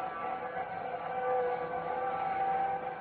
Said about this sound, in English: Let me see if I can get through a window. You can hear the bells and the whistles out there.